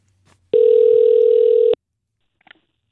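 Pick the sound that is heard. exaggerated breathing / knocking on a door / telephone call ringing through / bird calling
telephone call ringing through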